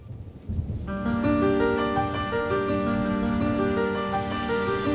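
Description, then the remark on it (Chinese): Steady, dense rain patters and hisses throughout as a light rain turns into a downpour on an island, soon joined by sustained musical tones layered over the downpour; no one speaks. “淅沥沥，淅沥沥，天空开始下雨，没一会儿，小雨变成倾盆大雨”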